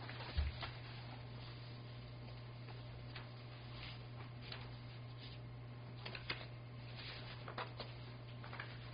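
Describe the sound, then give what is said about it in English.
Soft, irregular rustling and brushing of papers being shuffled and handled while someone searches for a particular sheet, with brief crisp bursts scattered throughout over a steady low electrical hum; no one speaks. “I'm shuffling papers over here.”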